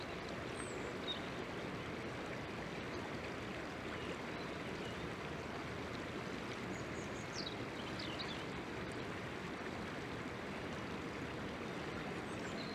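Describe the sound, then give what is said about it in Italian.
A river flows steadily with a continuous rushing, burbling wash of water, even throughout, with a few faint high chirps above the flow. “Il dolce suono del fiume ci ricorda ogni istante che stiamo abbandonando le strutture.”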